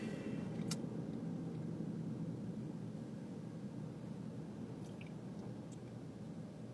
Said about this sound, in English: Well, I'm stuck in traffic.